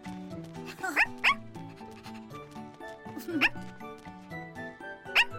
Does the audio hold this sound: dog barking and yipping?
yes